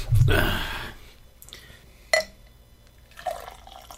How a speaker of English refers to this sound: Needs to be poured again in my glass. I don't know about you.